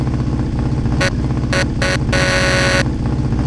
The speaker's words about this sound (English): So does that horn. Good God.